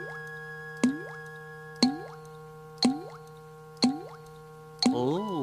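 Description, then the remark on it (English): Water drips from a tap that is not turned all the way off, in a slow, steady rhythm, about one drop per second, five distinct plinking plops, with a faint steady hum in the background. “Make sure you get the water turned all the way off.”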